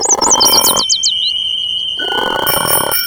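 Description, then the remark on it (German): A small android imitates many voices at once: a rapid, warbling bird-like trill whistles over reedy harmonica-like tones and a croaky frog-like rasp, with a steady ringing bicycle-bell tone; the jumble cuts out briefly, then returns, loud. “Er tirilliert gleichzeitig wie ein Vogel, eine Mundharmonika, ein quakender Frosch und eine scheppernde Fahrradklingel.”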